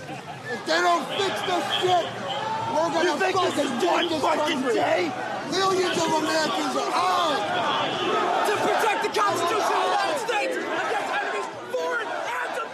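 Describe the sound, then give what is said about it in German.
A dense crowd of many voices shouts and chatters over one another at a steady, loud level, with scattered bangs and thuds breaking through the continuous roar of overlapping yelling, from the mob forcing its way into the Capitol in Washington on 6 January, incited by then-President Trump. “Wir hören hier Stimmen und Geschrei aus jenem Mob, der sich am 6. Januar dieses Jahres gewaltsam Zugang verschafft hatte zum Kapitol in Washington.”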